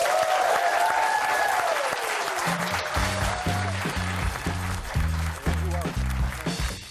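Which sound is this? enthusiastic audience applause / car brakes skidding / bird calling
enthusiastic audience applause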